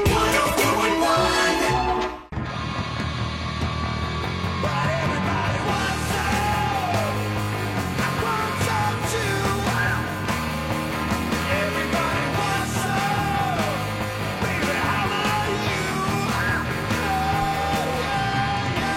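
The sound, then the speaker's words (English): A loud, raw human scream rings out over dense, driving rock music on the Monsters of the Morning show on Real Radio 104.1, with a brief cut early on before the wall of sound continues steadily to the end. “Best scream in the business.”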